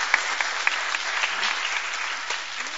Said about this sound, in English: So could we give these three a hand of applause, please?